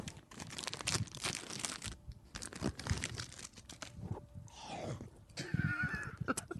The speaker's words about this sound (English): I'm going to eat a Reese's Pieces. Should we just sit silently and listen to the munching?